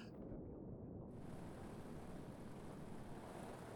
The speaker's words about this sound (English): Sleep earbuds and 10 hours of rain sounds for sleep playlist. Please do your thing.